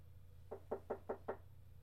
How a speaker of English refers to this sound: You and Darcy are interrupted by a knock at the door.